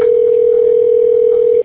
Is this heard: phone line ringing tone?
yes